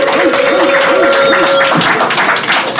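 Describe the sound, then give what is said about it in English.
A crowd bursts into loud, sustained applause and cheering for Nick Cannon, dense clapping filling the whole stretch with a few whoops and a high held shout rising over the noise. “Everybody, make some fucking noise for Nick Cannon.”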